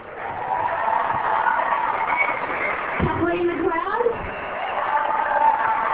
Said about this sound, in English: Okay, we're just going to announce the team now. Keep the applause coming.